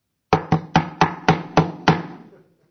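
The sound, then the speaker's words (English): Seven firm knocks on the wooden door of a small building with a wooden cross on it in Nuremberg, at 6:45 in the morning, in a quick, fairly steady rhythm, the last slightly delayed, each with a hollow low thud. A short resonant tail fades out after them, with no voices. “And I knock.”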